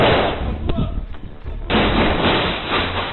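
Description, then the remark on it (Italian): Several sharp gunshots crack out at irregular intervals over a rough, muffled background during an Israeli military raid inside a camp, followed by a sustained burst of loud, harsh noise that continues to the end. “Il primo audio che sentite è quello di un blitz israeliano dentro il campo.”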